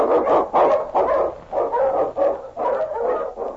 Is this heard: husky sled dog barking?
yes